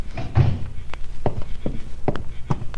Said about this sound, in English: shut the door. Keep the rest of the family out of here.